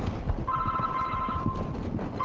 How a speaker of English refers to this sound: Now that's really embarrassing when your phone rings during a talk. That is really embarrassing.